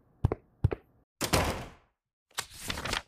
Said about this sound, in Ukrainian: Пришвидшує крок, грюкає дверима до під'їзду.